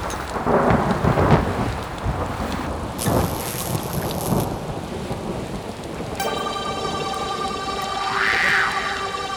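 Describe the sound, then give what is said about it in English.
Heavy rain hisses steadily while deep rolls of thunder rumble through the first half, then sustained tonal, almost whale-like synth sounds rise over the storm toward the end. “Pouring rain, thunder and lightning, clash of the titans.”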